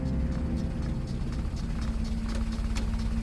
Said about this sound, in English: A motor car jerks and shudders in its transition from the smooth main roads to the winding country lanes of rural Derbyshire.